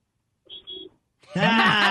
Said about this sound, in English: Can you honk the horn so we can hear what the Wienermobile honk sounds like? The Wienermobile honk? Okay, they want you to honk the horn.